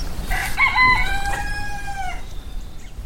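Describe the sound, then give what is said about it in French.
A rooster perched on a fence above a farmyard of hens crows once after the rain, a loud cock-a-doodle-doo with a rising start and a long sustained cry that trails off, over light outdoor background noise. “Il chante avec panache, les plumes colorées, la crête bien rouge.”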